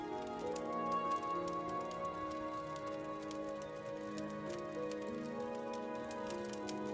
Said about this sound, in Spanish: Y te relajas mientras escuchas el fuego crepitar.